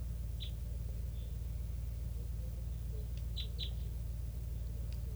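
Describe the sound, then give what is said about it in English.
A flock of what sound like pure type 3 birds calling from trees by a net: a handful of short, high chips scattered irregularly, some in quick pairs, sounding fairly faint over a steady low rumble. “And it's a flock of, sounds like pure type threes.”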